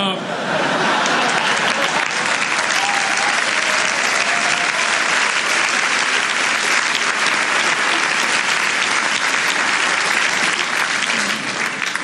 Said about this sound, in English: I don't know, if you go back and watch, he doesn't even get to finish the sentence before she's applauding. It's like, oh my God, here I am, I'm Speaker, and I get to applaud, and it's very exciting.